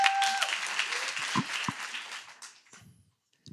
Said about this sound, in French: Venez, venez, venez. On peut les applaudir, les encourager.